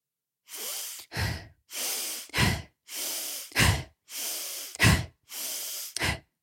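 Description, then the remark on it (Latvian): Five deep breaths in a steady rhythm as part of the Wim Hof method breathing exercise, each a long airy inhale followed by a shorter, forceful exhale, loud and alone with no talking. “Vispirms ir 25-30 dziļas ieelpas.”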